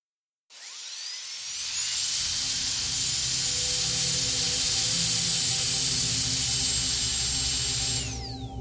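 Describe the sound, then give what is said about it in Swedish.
A high-pitched dentist's drill whirs up quickly and holds a steady, piercing whine for several seconds before spinning down, loud, with a low mechanical rumble beneath and no voices. “Nu sätter vi oss framför borren.”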